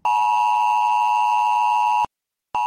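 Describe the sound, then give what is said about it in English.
A loud, steady electronic pollution alert tone from a phone, sounding when pollution levels get very high, plays for about two seconds, cuts off briefly, then starts again, with no voices present. “When the levels of pollution get really high, this is the kind of alarm you hear on your phone.”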